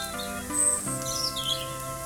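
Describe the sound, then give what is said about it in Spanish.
Small birds chirp and twitter in short high bursts, fairly faint, over a soft, steady musical drone with sustained tones. No one is talking. “También oyes los pajaritos que están cantando.”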